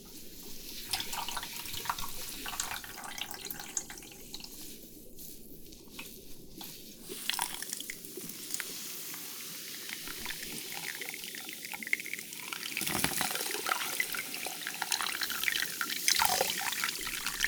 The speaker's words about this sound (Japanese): では、続いて炭酸シャンプーをさせていただきますね。